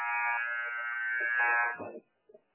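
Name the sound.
basketball game buzzer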